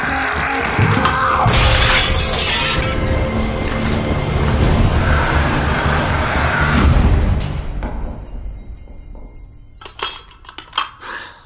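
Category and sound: sound effect, mirror shattering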